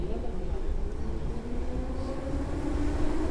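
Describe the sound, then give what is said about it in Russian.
A steady, loud subway train rumbles along, its deep droning roar and faint metallic whine holding constant throughout, heard from inside the moving car. “И поезд метро понес дуэт к студии, где их ждал Юра.”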